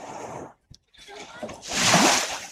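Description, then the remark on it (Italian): Sea waves wash in with a broad hiss, a brief lull, then a louder swell that surges and breaks with splashing water. “Noi ci rinfreschiamo con i suoni, quindi con questi suoni di onde del mare, mentre sorseggiamo magari un cocktail, così immaginando di essere già in vacanza.”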